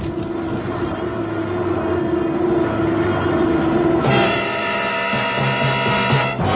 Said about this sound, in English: Well, it's just the starboard engine. I'll have to feather the prop.